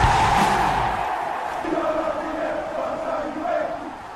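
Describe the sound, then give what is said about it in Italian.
A goal-scream jingle remix for the 'Let's Goal' segment: the station director's long, loud yelled cry from when Juventus scores, remixed by guitarist Massimo Varini, stretched over a dense, roaring crowd-like backing, holding steady intensity for about four seconds with wavering sustained pitches. “Noi lanciamo questa sigla, che dovrebbe essere pronta.”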